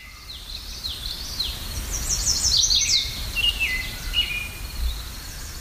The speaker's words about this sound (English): I'm going to take a moment here to just cue the birds.